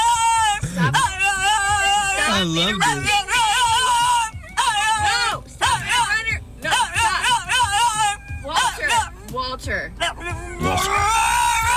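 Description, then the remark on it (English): A French Bulldog named Walter throws a whining tantrum in a car because he is not being taken to the park, letting out loud, high, wavering yowls and whimpers in rapid bursts with only brief pauses, while a person says a few words over it. “And this is what a Frenchie sounds like when it has a temper tantrum because mommy will not take him to the park.”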